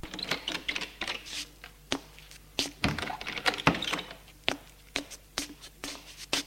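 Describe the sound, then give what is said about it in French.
The door of a father's bedroom being opened: a busy run of sharp clicks and light knocks from the handle and frame, with two heavier low thuds midway. No one speaks. “Il ouvre la porte de la chambre de son père et entre avec Benoît.”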